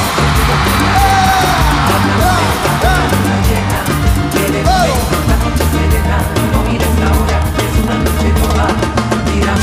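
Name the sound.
concert crowd shouting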